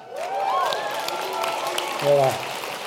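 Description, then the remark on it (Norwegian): An audience claps steadily throughout, a dense wash of hand claps with a few voices calling out over it, one louder shout near the end. “Klappe hvis det bra, bue hvis det dårlig, le hvis vi klarer å si noe morsomt.”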